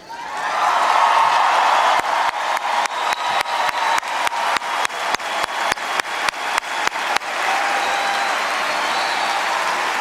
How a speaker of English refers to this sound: Michelle Obama did get a lot of applause, a lot of cheers when she brought up Hillary Clinton.